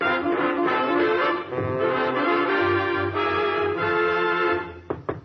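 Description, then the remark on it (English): A stretch of full orchestral music plays, then fades out into a few sharp, quick knocks at Lou Costello's door near the very end. “Somebody's at the door.”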